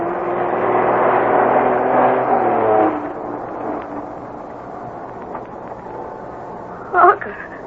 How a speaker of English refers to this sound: Bobby and Harker have spotted a slow-moving truck coming down the narrow road from the mine